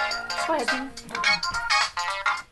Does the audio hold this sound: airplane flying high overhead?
no